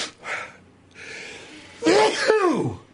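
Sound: a person sneezing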